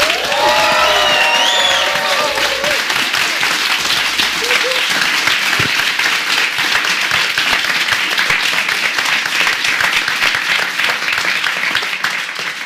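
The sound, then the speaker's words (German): A live audience bursts into loud, sustained applause with cheers and whistles, dense clapping for the whole stretch and fading slightly at the end. “Nach 35 Minuten ebbte der Applaus ab.”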